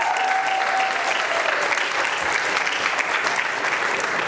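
A crowd bursts into steady applause, dense clapping that stays loud and even throughout, with a brief thin whistle-like tone near the start and no talking over it.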